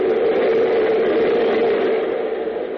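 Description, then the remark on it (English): A loud, steady rumbling roar of an underground train passing the windows of a switch room in an underground city, broad and unbroken with a strong low-mid hum, easing off slightly as it ends. No voices. “Suddenly a train roars past the windows, its lights illuminating the faces of the two men.”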